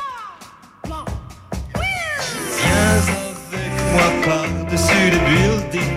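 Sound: cat meowing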